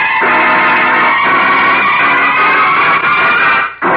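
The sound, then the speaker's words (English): A car engine starting and driving off: a loud, steady, rumbling roar with a droning hum that carries throughout, briefly dropping out just before the end. No one speaks. “Come on, Lou. Get this car rolling.”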